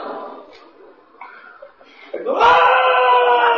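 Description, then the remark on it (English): A voice imitates a pained scream, rising into a loud, sustained, strained cry for the final second or so, preceded by quieter murmured vocal sounds. “Screaming.”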